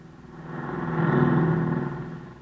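A car engine hums past on a highway about 20 miles from Fort Smith, growing louder toward the middle and then fading as the vehicle drives by without slowing. The steady mid-pitched motor drone is the only sound.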